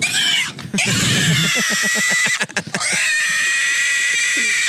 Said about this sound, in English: What is this? Pig squealing. Okay, great. This doesn't even offend me because I don't sound like that.